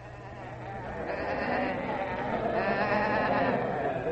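sheep bleating

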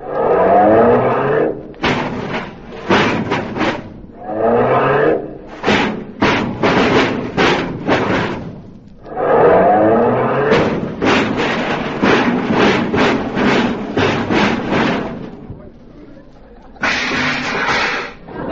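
car being parked

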